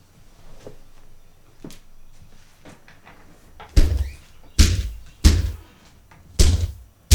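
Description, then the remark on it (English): Heavy pounding on a door: five loud, booming thuds spaced roughly a second apart, following a few seconds of quiet shuffling and faint background noise. “Someone seems to be knocking at the door.”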